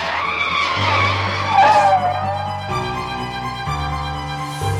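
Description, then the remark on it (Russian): A car approaching a crossroads skids, its tires screeching sharply for a couple of seconds, the squeal sliding downward in pitch, followed by a steady low engine rumble. “Она заметила, что к перекрестку приближается машина, но ей казалось, что она еще достаточно далеко, и”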